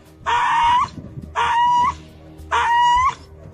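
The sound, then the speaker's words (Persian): A dog in Iran cries out while being brutally killed, in a recording shared on social media, three times in loud, drawn-out, high-pitched wails, each lasting over half a second with short pauses between, over a low background rumble. “این چاره‌بینی ها بعد از آن آغاز شد که در شبکه‌های اجتماعی نوار قتل بی‌رحمانه سگ گریان نشر گردید.”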